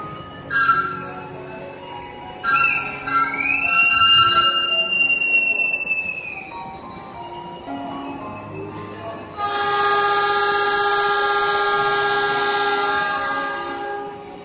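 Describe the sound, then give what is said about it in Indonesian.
Busy railway station ambience as a train rolls through, with a long rising squeal of wheels or brakes, tonal horn-like blasts, and a loud, steady rumbling roar building in the final seconds. “Ya, dialah Mirta, seorang pengemis tunanetra di sebuah stasiun kereta.”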